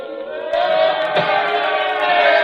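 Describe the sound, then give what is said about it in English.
A large crowd outside yells and roars together about Lenin in a continuous, swelling din, muffled, growing louder after a moment and holding steady with no single clear voice. “Crowd. They're yelling something.”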